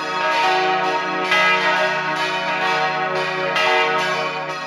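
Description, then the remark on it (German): The bells of the church in Abt Wil, St. Gallen, ring with a poor, harsh, clangy metallic tone, struck repeatedly every second or so, their dense, jarring overtones overlapping and sustaining loudly throughout with no voices. “So tönt eine Glocke mit schlechtem Klang.”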